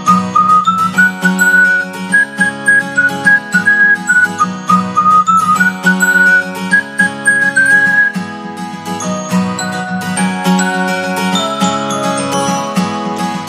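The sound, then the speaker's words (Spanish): A bright whistled melody rises and falls over a bouncy instrumental backing, clear, with a jingly tinkling accompaniment and no talking. “Hay que ver cómo me gusta a mí este silbidito, esta sensación ya de fin de semana, esta sensación de viernes”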